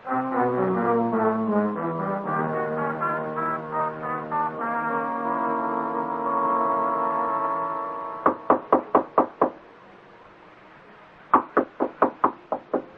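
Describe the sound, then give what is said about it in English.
Sustained, swelling musical tones fade out, then someone raps sharply on Mr. Morse's door, two quick rounds of about five or six firm knocks separated by a short pause. “I heard you knock on Mr. Morse's door, so I thought I'd better tell you he's on holiday in Sussex.”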